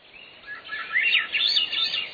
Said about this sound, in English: There's the flute-like song of a Swainson's thrush, a bird now wintering in Central and South America, maybe as far south as Bolivia.